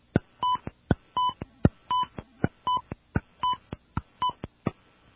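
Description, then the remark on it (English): Touch-tone keys being pressed to enter a phone number into a voice messaging service: about nine short, steady beeping tones in quick succession, each with a sharp click of the button. No voices are heard. “Okay, let's enter a phone number.”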